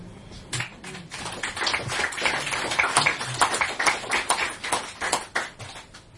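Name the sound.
audience clapping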